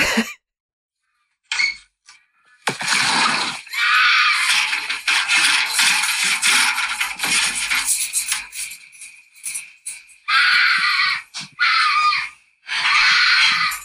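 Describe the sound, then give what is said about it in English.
A mountain lion at night in a backyard lets out a loud, raspy, piercing scream that holds for several seconds, followed by two shorter, harsh screeches after brief pauses, recorded as a phone voice memo, with no talking. “It's a motherfucking mountain lion.”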